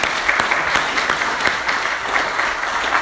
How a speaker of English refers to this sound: So a big thank you. Let's give a round of applause to our folks.